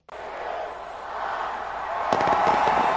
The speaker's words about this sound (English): New Year's celebrations continue with fireworks, parties, and other festivities across the world amidst tight security. New Zealand, Australia, and Russia were among the first to greet 2017. Massive fireworks displays rang in the new year in Sydney